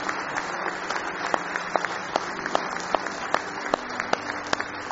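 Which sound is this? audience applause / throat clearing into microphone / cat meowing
audience applause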